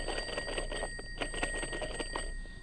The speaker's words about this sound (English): Oh, I hear the telephone ringing. I hear the telephone.